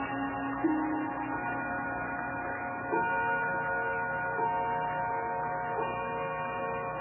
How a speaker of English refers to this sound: Ah, there's that bell again.